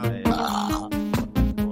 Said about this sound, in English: No, I just burped right into the mic.